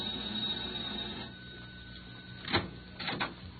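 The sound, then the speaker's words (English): A front doorbell rings in two short, harsh buzzing bursts, the second slightly longer, over a steady low hum with no one speaking. “Mrs. Bert Sharp never quite knows who she's going to find at the front door when the bell rings.”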